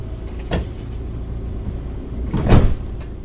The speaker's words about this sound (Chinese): 好，现在我直接帮你把场景呢换到了旧式自强号的车厢里面。这时候车子还没开哦，你听那个整个空间频率马达声音就完全不一样了。